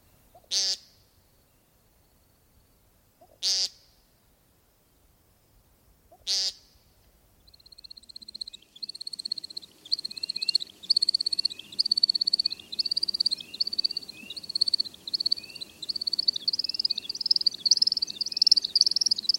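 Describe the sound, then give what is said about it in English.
An American woodcock gives three buzzy, nasal peents a few seconds apart, then breaks into a long, continuous high twittering of the display flight that runs to the end. “American woodcock.”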